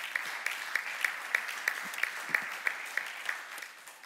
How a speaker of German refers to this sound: Ja, komm, wir geben Gott einmal einen Applaus.